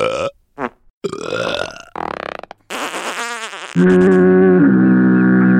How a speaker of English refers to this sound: can we get some sound effects of burps and farts?